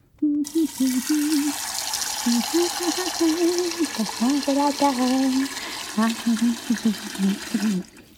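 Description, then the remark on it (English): Tap water gushes steadily into a pot for several seconds, filling it to boil for a stew, a continuous rushing hiss, while a person's voice talks over it throughout. “Well, to make a stew, you must first boil the water.”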